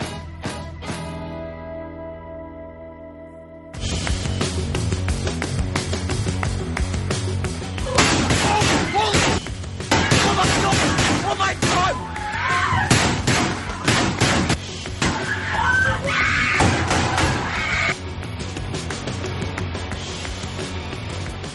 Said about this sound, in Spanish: estos sonidos que escuchaban de disparos tenían que ver justamente con lo que ocurría el pasado miércoles.